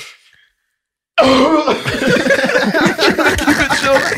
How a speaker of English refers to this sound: Yo, you know those coughs that just take over your body, nigga?